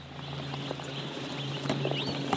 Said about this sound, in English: an industrial farm where they raise chickens that in China are known as white feather meat